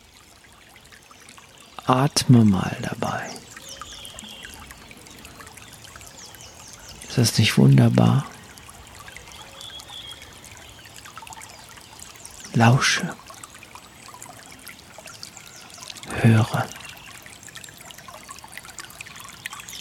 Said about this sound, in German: Indem wir dem mal lauschen. Hör mal das Wasser. Diese Natur.